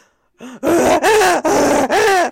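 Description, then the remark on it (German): A person imitates a rutting stag's roar: a short lead-in groan, then three long, loud, rasping bellows with rising-falling pitch, separated by brief breaths. No words are spoken. “Imitiere einen brünftigen Hirsch.”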